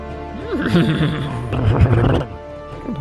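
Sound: horse neighing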